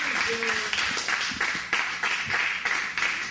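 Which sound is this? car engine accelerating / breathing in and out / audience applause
audience applause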